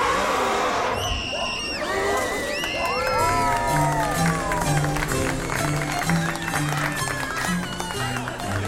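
Children scream and shriek excitedly and adults gasp as an elephant finally appears, over a busy, murmuring crowd, the children's high voices rising and overlapping while steady background noise continues throughout.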